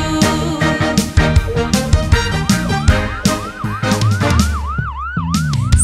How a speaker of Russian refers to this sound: Вау-вау-вау, маячок включаю. Вау-вау-вау, сирены сообщаю. Вау-вау-вау, жизни я спасаю. Я скорая помощь, всем помогаю.